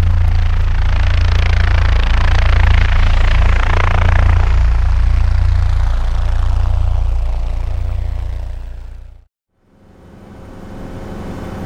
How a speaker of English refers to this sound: look over there. Do you see that too? Yeah, I do. It's a helicopter.